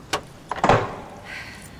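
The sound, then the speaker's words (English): A sharp metallic click, then a cluster of heavier clunks and scrapes as a key turns in the lock of the Red Rock door, the red door under a rock leading to the Undertomb, and the door swings open, fading into a soft creak. Fairly loud, with no voices. “and recall that the key to the Red Rock door is this one.”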